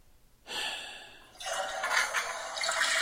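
A toilet flushes: a hissing rush of water starts abruptly, then swells into a louder, steady gurgling roar that keeps going to the end. No one speaks.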